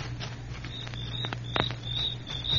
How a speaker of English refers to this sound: You hear that? Yeah, sure. Just crickets, though. But keep your ears open.